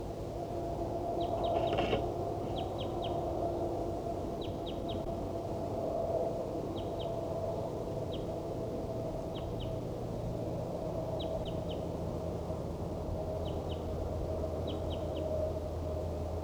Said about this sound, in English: These are vocalizations of a wild bird.